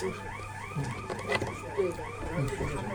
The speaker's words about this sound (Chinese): 好，火警。